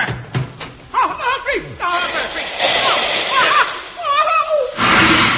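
steam hissing

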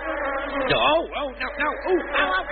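swarm of bees buzzing

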